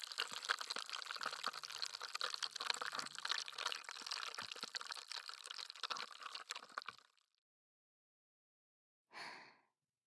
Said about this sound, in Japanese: シュワシュワする音も楽しんでくださいね。